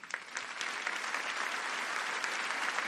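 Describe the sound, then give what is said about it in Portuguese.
An audience claps steadily for a few seconds in applause for the sound crew, a dense wash of many overlapping hand claps at an even, sustained level with no voices on top. “Mas eu queria que vocês dessem uma bela salva de palmas também para esse pessoal que está no som ali.”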